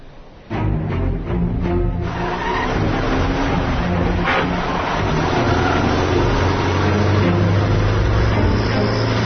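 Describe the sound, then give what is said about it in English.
A car engine drones steadily and loudly as the vehicle drives along at about 45 miles an hour, with a low rumble and road noise rising abruptly at the start and holding throughout, no voices. “Hey, 45 miles an hour. That's a little fast.”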